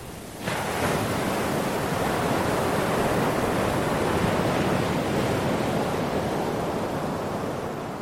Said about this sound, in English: The waves are coming up 4 or 5 feet over where you're standing